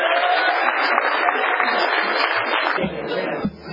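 A crowd at an alcoholics' recovery meeting applauds a speaker steadily, a dense wash of clapping that holds at an even level for about three seconds before thinning out as a voice begins to speak.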